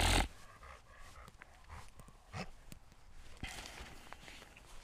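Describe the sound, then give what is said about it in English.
A dog pants in quick, steady breaths while its paws tap and shuffle along, with a brief loud burst at the very start and no one speaking. “This dog has me going through a whole ass tree, man.”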